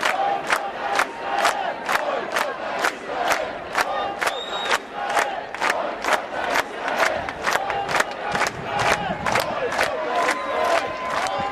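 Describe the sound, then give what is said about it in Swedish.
A crowd at a 2010 demonstration honouring Ship to Gaza on Sergels torg in Stockholm chants a time-tested slogan greeting Mattias Gardell on the podium, in a steady, fast rhythm, with sharp accented beats about twice a second over a continuous roar of many voices, loud throughout. “Under hyllningsdemonstrationen till hjältarna från Ship to Gaza på Sergels torg i Stockholm strax efter incidenten 2010 syns Mattias Gardell på podiet mottagandes folkets jubel i form av den tidsbeprövade ramsan.”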